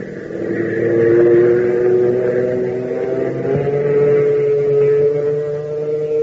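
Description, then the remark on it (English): Hop Harrigan's propeller plane CX4, coming in to the control tower with wind from the southeast, its engine roaring steadily and loudly, a deep droning hum with a buzzing edge whose pitch creeps slightly upward over about six seconds. No voices are heard. “Fellas, doesn't the roar of that plane give you a thrill?”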